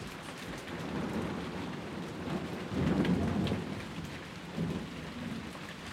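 Steady rain pours down with a broad hiss while low thunder rumbles, swelling loudest around the middle and again briefly near the end. No voices are present.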